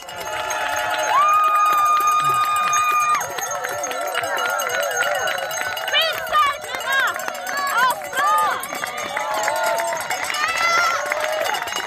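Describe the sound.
A crowd of spectators cheers and shouts encouragement for a runner in a race, voices overlapping in a loud, continuous clamor with high-pitched whoops and whistles rising above the din throughout.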